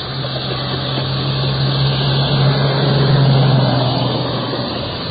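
A car drives by on a street, its low engine drone and road noise swelling slightly toward the middle before easing off. The steady rumble fills the whole clip and no one speaks.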